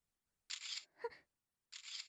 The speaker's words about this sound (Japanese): そんなスマホで写真を撮ってんの